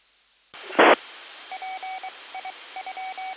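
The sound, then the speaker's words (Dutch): A hiss of radio static opens with a sharp burst, then a quick string of short, evenly pitched telephone dialing tones beeps out in irregular groups over the narrow, noisy line. “Nou, ik zal hem even telefonisch optelefoneren, om het zo maar te noemen.”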